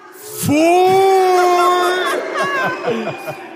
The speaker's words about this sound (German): Es haben gerade alle geklatscht, außer so Leute, die morgen so um 4 Uhr aufstehen müssen.